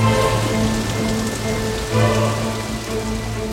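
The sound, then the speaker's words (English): Steady rain pours down in a dense, continuous, loud patter, with a low sustained hum running underneath throughout. “It begins to rain. It rains for 40 days.”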